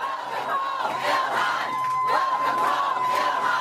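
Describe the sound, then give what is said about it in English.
A large crowd at the airport in Minneapolis chants "Welcome home, Ilhan" in loud, rhythmic unison, greeting Ilhan Omar on her return home, many voices rising and falling in repeated phrases with scattered shouts over a steady dense roar throughout. “Welcome home, Ilhan, they're chanting.”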